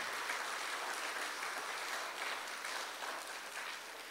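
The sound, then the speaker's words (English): An audience claps together for the Lord at a religious gathering in a dense, steady burst of applause that holds for about four seconds and eases off slightly at the end. No one speaks over it. “Can we give the Lord a hand clap for just being who he is?”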